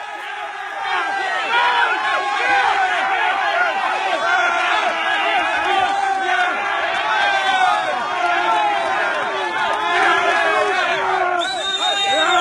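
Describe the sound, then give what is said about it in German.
A dense, hostile crowd of many voices shouts and jeers continuously and loudly at refugees arriving by bus in Germany in February 2016, with overlapping angry calls and no single voice standing out, sustained for the whole stretch. “Und die Stimmung, das hört man, ist alles andere als freundlich. Wird rumgepöbelt.”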